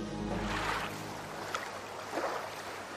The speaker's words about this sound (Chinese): 江面上波浪又大又急